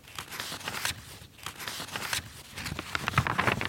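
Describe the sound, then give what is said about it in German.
The 821 pages of an old cookbook from 1772, bound in decorated leather, being turned by an archivist wearing cotton gloves: a series of dry, papery rustles and soft swishes, irregular and fairly quiet, with no voices. “Mit Baumwollhandschuhen blättert Archivarin Brigitte Kramer die 821 Seiten eines alten Kochbuches aus dem Jahr 1772 durch.”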